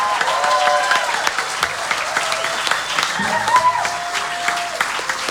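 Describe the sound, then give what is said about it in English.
Audience applause at the radio show Friday Live on 95 BFM: a dense, steady wash of many hands clapping for about five seconds, with some cheering voices and a few whistle-like tones mixed into the crowd noise. “Let's go out clapping.”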